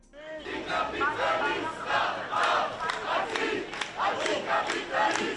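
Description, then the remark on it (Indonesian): Thousands of demonstrators carrying hammer-and-sickle flags chant loudly in the streets of Madrid on a Sunday, protesting against the NATO summit, many voices rising and falling together in a steady, rhythmic pulse with overlapping shouts throughout. “Dengan membawa bendera palu arit bekas Uni Soviet, ribuan orang hari Minggu berdemonstrasi di jalan-jalan ibu kota Madrid menentang KTT NATO yang akan berlangsung pekan ini.”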